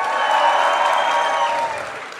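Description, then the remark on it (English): An audience cheers and makes noise to vote for which item they think is more valuable, a dense wash of clapping and shouting voices that holds steady for about two seconds, then tapers off slightly at the end. “So make noise for what you think is going to be more valuable.”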